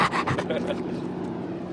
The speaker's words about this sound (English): Having run Load through the drill, the young Marine pets his black lab and gets a big, wet dog kiss in return.